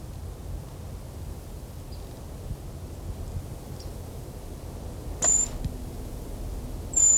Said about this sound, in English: This is a brown creeper. It's now 1 o'clock, 2nd November, making a high whistle-like sound.